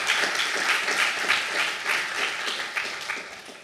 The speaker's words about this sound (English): GNOME Calendar and GNOME Photos are going to be our new core apps, so let's give a big round of applause for the maintainers of those applications.